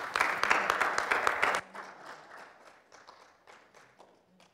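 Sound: audience clapping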